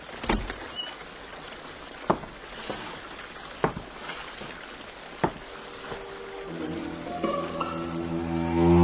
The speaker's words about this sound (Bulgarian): Чуйте. Водата вече прилива през бента.